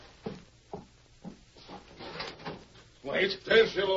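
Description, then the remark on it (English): A door is opened: three short, evenly spaced thuds, then a stretch of soft rattling and creaking, followed by a loud voice speaking over the end. “Open the door, Lacey.”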